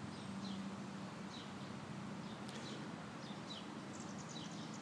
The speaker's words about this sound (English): Birds are singing. Nice day, not too sunny right now.